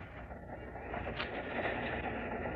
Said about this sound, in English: Well, looks like something's quite strange around here. I can't imagine what's the train stopping here for? Well, I don't know. Maybe the engine broke down.